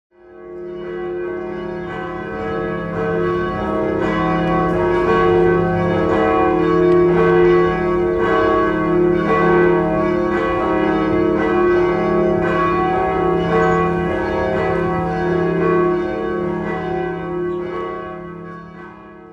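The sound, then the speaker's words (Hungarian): The bell of the university church, first heard and recorded on radio on 1 April 1928, rings steadily and loudly for the whole stretch, each strike blending into a rich, sustained wash of overlapping tones with long resonant hum beneath. “1928. április 1-én hangzott el, ez az egyetemi templomnak a harangja volt.”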